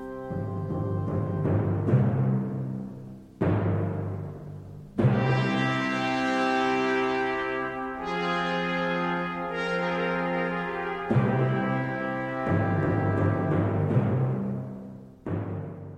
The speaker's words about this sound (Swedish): Här är marsch och canzona för Queen Mary's Funeral.